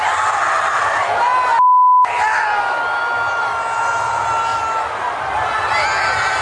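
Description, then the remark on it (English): Patrick Mahomes' girlfriend and her friends in a stadium suite yell and cheer loudly and continuously over a dense, echoing crowd roar, with a short electronic bleep cutting through near the start; from her Instagram video. “Yeah, that's her yelling with her hot friends in a suite.”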